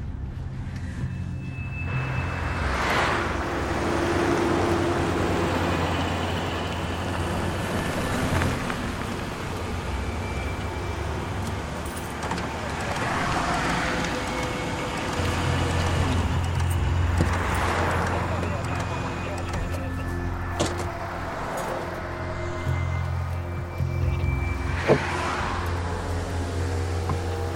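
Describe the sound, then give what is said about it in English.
A car driving along: a steady low engine and road rumble that continues throughout, with broad whooshing swells rising and fading every few seconds. “Cool, we're in a stolen car.”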